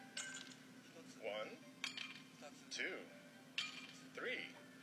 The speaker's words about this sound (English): What's this? It feels like something shaking in a glass. The Joy-Con can convey to you the feeling of ice cubes colliding in a cup. But that's the only thing it can convey.